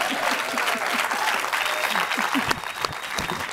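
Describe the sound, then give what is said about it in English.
An audience breaks into steady applause for performer Bridget Everett, a dense wash of many hands clapping at an even level for a few seconds, with scattered whoops and voices mixed into the noise. “Let's give her a hand.”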